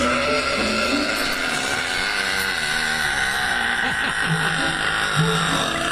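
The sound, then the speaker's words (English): A woman's loud, drawn-out burp in a record attempt, sustained for about six seconds, with a harsh, buzzing rasp and a low pitch that wavers and stutters throughout, with no talking over it. “What I do to prepare for a big burp is I just take a deep breath in.”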